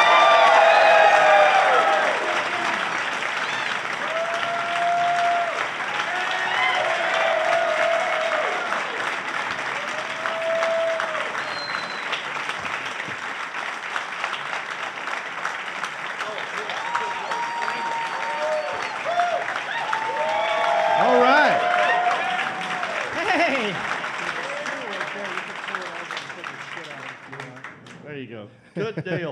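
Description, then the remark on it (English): An audience at the Queen City Comedy Festival in Charlotte applauds steadily for about half a minute for four comedians, a dense wash of clapping mixed with whoops and cheers that swell again near the end before fading out. “Please give it up for”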